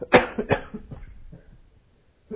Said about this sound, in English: Excuse me. I'll try not to cough into the microphone.